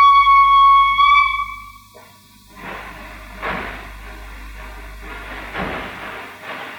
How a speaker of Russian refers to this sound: Я за вами пришел. Пожалуйте садиться. Сейчас поезд отходит.